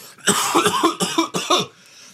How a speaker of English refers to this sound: One second, sorry. I've just got to do a big cough.